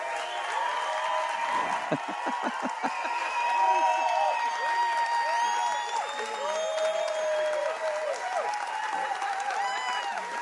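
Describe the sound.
A large audience, asked to stand, breaks into sustained, steady applause with cheering and whoops mixed in, the dense clapping holding at a loud level throughout with voices calling out over it.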